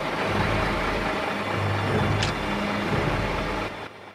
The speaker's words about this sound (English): tears across the landscape in the Mack truck.